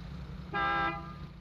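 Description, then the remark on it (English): A single short car horn honk from behind rings out clearly over low traffic rumble, lasting under half a second with a bright, steady harmonic tone. “A honk from behind.”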